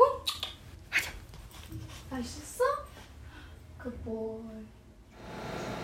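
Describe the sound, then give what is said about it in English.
A dog makes playful noises while being played with: a string of short whiny yips and grumbly vocal bursts, scattered irregularly over several seconds, ending in a soft rustle. “I'm playing with my dog.”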